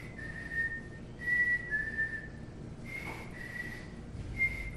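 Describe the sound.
A person whistles a series of sustained, high-pitched tones in short repeated phrases, mimicking electronic signal beeps, heard clearly and alone over a faint background hiss.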